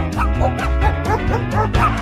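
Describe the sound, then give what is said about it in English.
Loud, bouncy cartoon theme music plays continuously, with a steady bass line under bright melodic phrases that have a playful, squeaky quality. “It opens with the theme music.”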